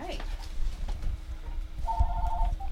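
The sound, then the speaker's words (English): A telephone rings once with a steady electronic warble lasting about half a second, followed by a brief blip, heard at moderate volume over low background rumble and faint voices; an incoming call to a studio phone during a live on-air broadcast. “I saw the phone ringing.”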